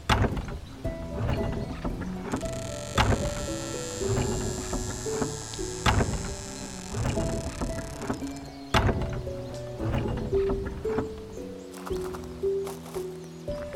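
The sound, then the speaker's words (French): The heavy gate at a village entrance grinds open, with drawn-out wooden creaks and a series of loud, deep clunks landing every few seconds, sustained for over ten seconds. “Ouvrez la porte !”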